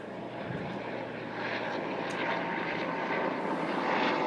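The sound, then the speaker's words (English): A low-flying propeller plane drones overhead, its broad engine roar steady, swelling slightly louder as it passes, with no voices over it. “Well, there's that plane.”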